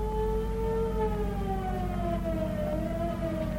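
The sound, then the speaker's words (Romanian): Loud police car sirens wail continuously with a slowly falling pitch, layered over a dense low rumble. “Mașinile poliției, șefule. Trebuie să o ștergem.”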